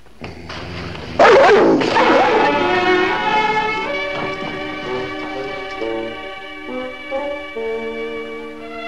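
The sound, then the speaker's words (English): A dog gives a sudden loud bark, then carries on with a string of high, drawn-out yips and whimpering cries, with no talking. “You think it's a dog?”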